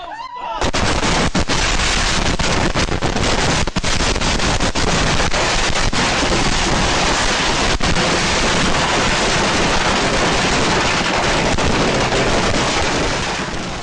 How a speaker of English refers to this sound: That is exactly what will happen to you if you invite someone to your home to light fireworks that has no business doing it. What did you think of that explosive 4th of July celebration?